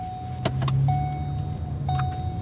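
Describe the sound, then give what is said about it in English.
A car's steady low engine hum drones throughout, moderately loud, with a thin whining tone and a few sharp mechanical clicks and whirs, as a city transportation engineer drives on a Fremont street with a lot of cut-through traffic. No one speaks. “a transportation engineer for the city, drives me out to a street that's gotten a lot of cut-through traffic.”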